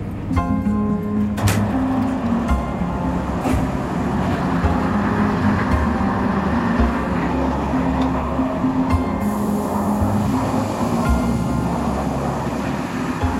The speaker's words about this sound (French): Premier arrêt du Paris-Lourdes, le dernier avant la nuit, en gare des Aubrais, près d'Orléans.